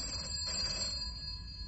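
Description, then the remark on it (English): A telephone rings in an office at the Type For You agency with a steady, bright bell-like trill that carries through the whole moment, fairly quiet and set against a low hum, with no one speaking. “Phone in my office.”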